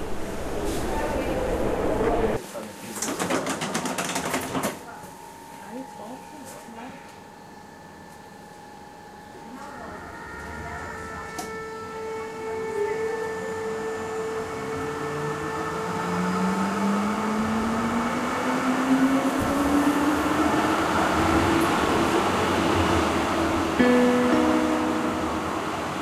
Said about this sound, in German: Unser Weg führt uns jetzt weiter zur S-Bahn, die Richtung Stadelhofen fährt.